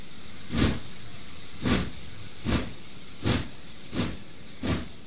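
A steam train pulls away: six even, rhythmic chuffs about every three-quarters of a second over a constant hiss of steam, with no voices.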